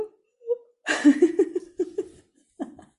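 A drawn-out voiced yawn: a soft hum, then a long breathy, wavering stretch that pulses a few times before trailing off. No speech.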